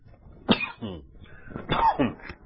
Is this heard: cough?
yes